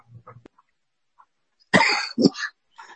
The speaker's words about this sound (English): I was coughing. I'm sorry.